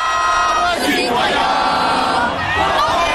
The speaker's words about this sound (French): Une foule compacte, plus impressionnante que jamais, une atmosphère unique. La Marseillaise, reprise par vagues.